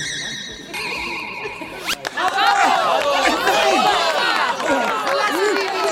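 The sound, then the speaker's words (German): A short shimmering, chime-like magic effect gives way to a loud circus audience of many voices cheering and shouting together, sustained to the end. “Ich bin genauso begeistert wie das Publikum.”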